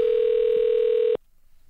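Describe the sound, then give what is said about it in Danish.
A single steady telephone ringback tone, a loud, clear hum lasting about a second before cutting off into near silence, while waiting for Hjem og Fix customer service to answer a call. “Alright, vi venter. Jeg håber, der er en god ventetone.”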